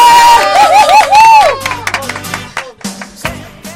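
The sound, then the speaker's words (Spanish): The team of the UMH university radio morning programme shouts together in a loud, rising and falling cry, followed by scattered cheering and excited chatter that fades out over a few seconds. “Este programa no podía ser posible sin todo el equipazo que ha pegado este grito.”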